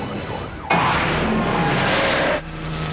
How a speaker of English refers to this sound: San Fernando, California. A man in a stolen car leads police on a wild chase through valley streets.